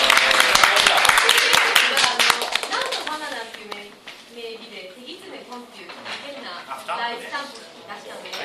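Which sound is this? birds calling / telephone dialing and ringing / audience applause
audience applause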